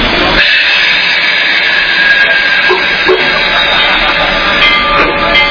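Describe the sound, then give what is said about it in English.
A steam engine whistle blows in one long, loud, sustained blast, wrapped in a rough rush of hissing steam that fills the whole clip. “I haven't heard that whistle for a long time.”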